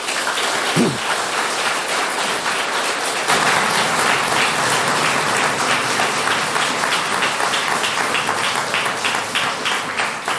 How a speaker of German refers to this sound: Vielleicht erstmal ein Applaus